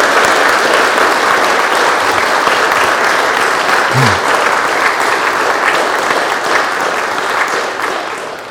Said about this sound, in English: I think that probably deserves some applause. For all three of them.